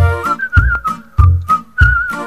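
Someone whistles a bright, wavering melody over a steady low thumping beat that lands roughly every half second.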